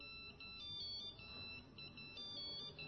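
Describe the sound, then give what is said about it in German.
A phone ringtone beeps in a quick repeating electronic pattern of high, stepped tones, steady, with a low background hum and no talking, during a confirmation church service. “Da hat ein Piepser an irgendwo. Bei euch irgendwo.”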